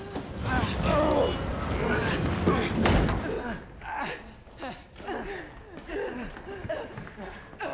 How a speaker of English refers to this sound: They arrive at the mysterious building which Tobin spotted earlier, a dilapidated bowling alley. They enter. Cal! Cal helps Travis block the door with an old jukebox.